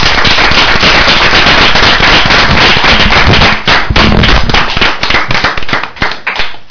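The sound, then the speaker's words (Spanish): Loud, dense applause from an audience, a steady wash of many hands clapping that thins out after a few seconds into scattered, uneven claps before fading. “Yo pido un aplauso para él, era una grandísima persona.”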